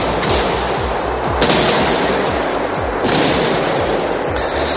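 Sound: gunshots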